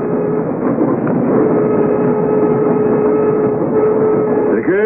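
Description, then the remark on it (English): A commuter train rolls steadily along the rails, a continuous loud rumble with a thin, sustained mechanical whine running through it, with no voices. “Why, I knew all about the Orient Express, but a commuter train?”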